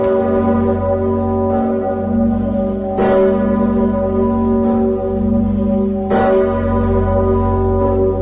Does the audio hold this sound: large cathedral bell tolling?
yes